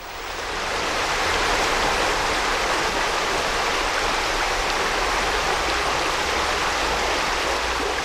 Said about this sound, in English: This is the River Brosna running through the village of Clara in County Offaly.